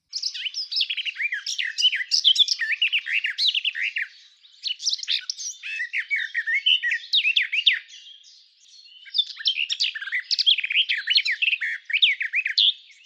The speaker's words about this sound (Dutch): Je hoort hier al een beetje een snelle merel in, hè? Volgens mij, als je dit zo... Jij hoort dat erin, ja. Ja, een tuinfluiter, het blijft bij dat gebrabbel. Het gaat niet op een gegeven moment omhoog of hele lange